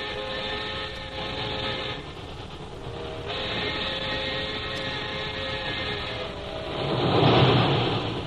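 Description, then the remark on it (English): A train nearing Calcutta rumbles steadily along with a continuous low roar and faint rhythmic clatter, swelling louder near the end, with no voices present. “As Jim and Lil near Calcutta, a messenger boards the train and hands Jim a sealed envelope.”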